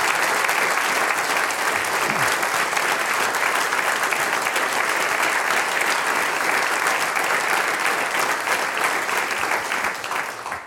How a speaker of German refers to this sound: Und die, die sagen, alle, die schon für uns gesungen, gespielt und geredet haben, kriegen jetzt einmal einen Applaus. Es funktioniert wunderbar. Dankeschön.